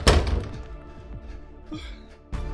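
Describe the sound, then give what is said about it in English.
A heavy door is slammed shut against a pursuing mud creature, one loud, booming thud that rings and rumbles as it fades, then a second, softer thump lands right at the end. No one speaks. “The door. Get the door.”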